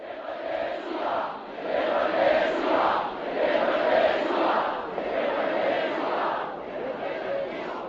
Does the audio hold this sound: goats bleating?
no